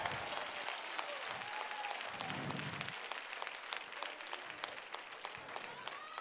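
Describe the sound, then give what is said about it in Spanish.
A church audience applauds loudly and steadily, dense overlapping claps for several seconds, with a few scattered voices calling out beneath the clapping. “Vamos, si usted es iglesia, usted debería de estar dándome un aplauso bien fuerte.”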